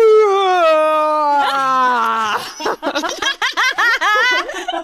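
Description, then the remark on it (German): A voice imitates how a man always yawns loudly in the morning, a loud, drawn-out yawn, a sustained tone gliding downward in pitch for about two seconds, then breaks into a run of choppy, rhythmic laughter. “Auf jeden Fall, dann gähnt er immer so laut. Macht immer so, weil, also man kann ja auch leise gehen, aber er macht immer.”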